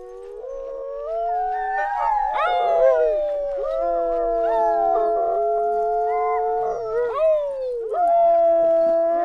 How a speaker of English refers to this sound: Howled with his dogs as they left Central.